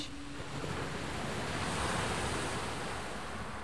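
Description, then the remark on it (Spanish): Steady roar of sea waves washing in, a broad continuous surf rush with a gentle swell near the middle, heard alone with a faint windy hiss. “¿Oyes eso? Parece el ruido del mar.”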